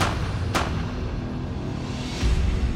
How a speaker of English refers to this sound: And I'm freaking out. And then I start hearing the gunshots.